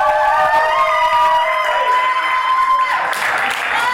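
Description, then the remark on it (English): A crowd votes for digital over analog by applauding and cheering loudly and continuously, with steady dense clapping under rising and falling whoops and shouts for about four seconds. “Let's get by round of applause.”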